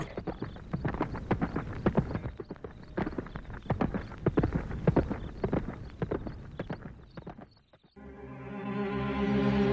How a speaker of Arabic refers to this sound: هيا هيا أيها الحصان، انطلق بنا إلى حيث نحن.